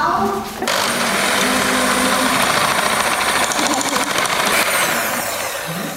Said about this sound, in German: jetzt nehmen wir uns den Mixer. Und jetzt wird es gleich ganz laut für alle.